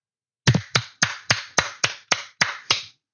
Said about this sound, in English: Keep applauding like a good, obedient, dumb, trained animal. Keep applauding. When you celebrate getting back something, a few crumbs from the table that never should have been taken away anyway.